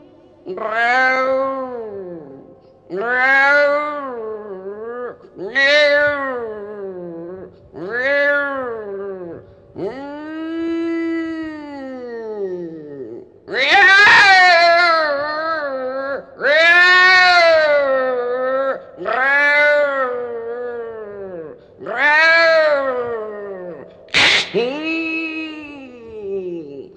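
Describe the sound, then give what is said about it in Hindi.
A voice imitates the yowling of a cat pouncing on a mouse: about ten drawn-out, rising-and-falling meows in steady succession. They grow louder and more strained toward the end, prominent, with no other talk. “तो एक दिन के बात हुआ नु मेम साहब, चूहा पर बिल्ली झपटी, समझ गई? अच्छा, कैसे कैसे झपटी जानती हो?”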